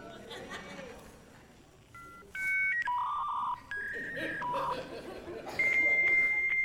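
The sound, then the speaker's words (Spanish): A person vocally mimics the dial-up modem handshake once used to get on the internet over the telephone: a string of steady, whistly pitched tones shifting up and down over hissy, scratchy noise, growing louder toward the end, with faint chuckling around it. “Pero imagínense cuando nosotros queríamos entrar a internet, lo hacíamos con el famoso tono del teléfono.”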